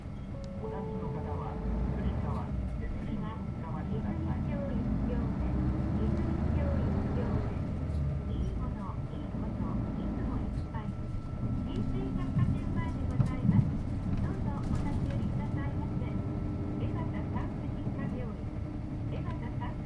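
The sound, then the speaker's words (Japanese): A train pulls away from a standstill, its electric motor whine rising steadily in pitch as it gathers speed, with a continuous low rumble of wheels and carriage noise throughout. “はい、では始まります。発車します。”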